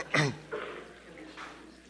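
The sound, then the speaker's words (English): An audience coughs together on a count of three before a sermon: a burst of coughing and throat clearing from the group, loudest at the start, then a couple of scattered, fainter coughs trailing off. “So at the count of three, everybody cough.”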